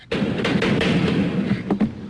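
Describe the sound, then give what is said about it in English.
A series of heavy knocks on a door, loud, with a booming resonance, set against a steady rumbling background din and no talking. “Please knock.”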